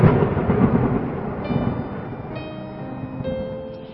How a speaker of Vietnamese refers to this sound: Gió bão càng to, mây đen kéo đến mù mịt, trời tối sầm lại. Sóng lớn nổi lên dữ dội nữa, như những chân núi đổ sập xuống thuyền. Chiếc thuyền ngả nghiêng, rồi bị chôn vùi trong những lớp sóng hung dữ.